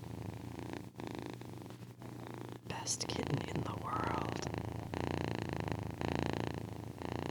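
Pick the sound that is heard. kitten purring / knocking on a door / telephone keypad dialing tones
kitten purring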